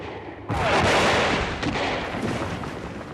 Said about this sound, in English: I heard huge explosions. The Green Warriors were firing back with their deadly rifles. The air was filled with the sound of violent battle.